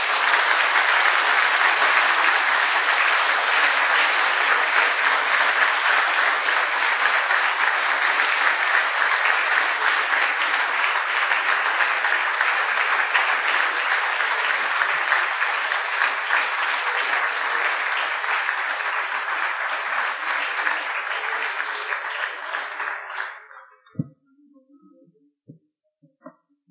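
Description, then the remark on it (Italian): Sustained audience applause after a professor's lecture, a dense, steady wash of clapping lasting over twenty seconds before tapering off abruptly, followed by a few faint thumps and near silence. “Grazie professore, credo che gli applausi li abbiano sottolineato quanto la sua relazione è stata ascoltata e credo molto apprezzata.”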